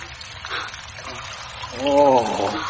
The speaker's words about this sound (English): Oh. Listen. It's rain.